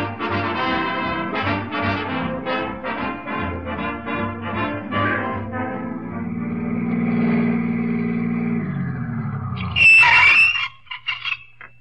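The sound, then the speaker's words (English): A taxi's engine hums and rumbles steadily, then near the end its brakes, which need fixing, let out a loud, sharp screech as the taxi stops abruptly, followed by a couple of small clunks. “We ought to get them brakes fixed.”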